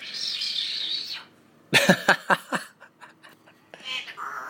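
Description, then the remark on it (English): A pet bird lets out a quick run of sharp, raspy calls and chirps, doing random whistles and saying "Feed the bird", the bursts tapering into softer clicks, with a steady hiss before and after. “doing random whistles and saying, "Feed the bird."”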